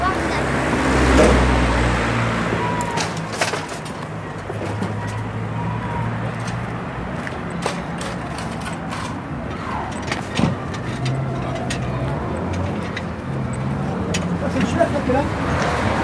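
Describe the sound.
Steady road traffic rumbles in the background beside a football pitch, with a louder low engine swell near the start as a car goes by, while faint indistinct voices and occasional clicks and knocks come through.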